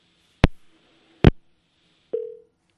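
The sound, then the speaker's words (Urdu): A phone line to a guest cutting off during a broadcast interview: two sharp clicks a second apart, then a single short, steady mid-pitched beep of a busy tone, with no voices. “لگتا ہے کہ ہمارا رابطہ منقطع ہو گیا ہے”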